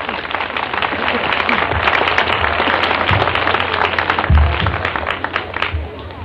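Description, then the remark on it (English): A crowd at the Florida Folk Festival applauds the festival's director steadily for several seconds, a dense wash of many hands clapping at once with a dull, muffled tone, holding fairly even in loudness throughout. “Let's give her a big hand of applause.”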